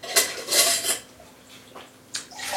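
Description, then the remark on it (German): Water poured into a glass between whisky tastings, in a couple of short splashy bursts with glassy clinks and a quiet pause between them; no one speaks. “Ein bisschen Wasser zwischendurch.”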